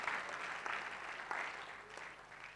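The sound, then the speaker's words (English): An audience applauds a young man who taught on the tabernacle, a dense wash of overlapping claps that holds at a fairly even level for a few seconds, with small surges here and there and no voices standing out. “Can we clap for this young man?”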